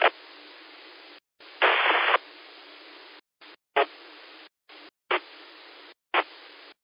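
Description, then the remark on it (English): Radio static hiss cuts in and out as someone keys up a 2-meter amateur radio repeater with no voice during the Blue Ridge 2-meter net, giving repeated bursts of band-limited noise, short louder crackles and abrupt silent gaps between transmissions. “I got somebody bringing up the repeater, but you don't have any audio that I can hear.”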